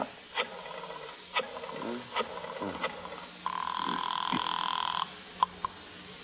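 telephone ringing

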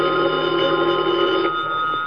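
telephone ringing

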